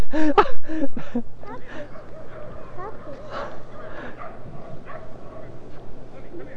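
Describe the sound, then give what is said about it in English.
A dog yips and barks in a quick burst of several sharp calls near the start, followed by softer whimpering and whining sounds over a steady hum and faint background voices. “That poor dog.”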